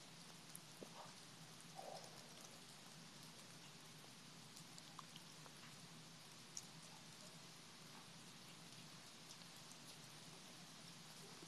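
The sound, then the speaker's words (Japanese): Steady rain growing heavier pours down in a dense, even hiss, with scattered drops tapping surfaces. It is fairly loud and continuous, and nobody speaks. “あ、やべ、雨強くなってきた。”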